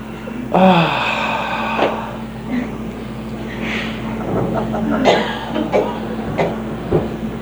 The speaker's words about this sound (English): Feel in your body where you'd like to have a release. And just take a moment, take a good full breath and yawn and stretch.